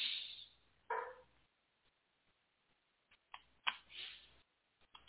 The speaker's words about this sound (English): Okay, I'm back. Apologies. Dog got a little rambunctious there.